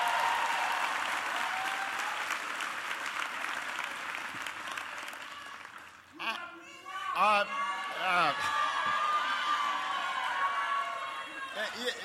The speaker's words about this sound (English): a big round of applause for the great introduction